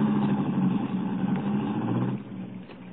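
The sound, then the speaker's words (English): A car engine hums steadily, a low droning rumble with a tonal whine, easing slightly quieter toward the end. No one speaks. “Well, don't get out of the car.”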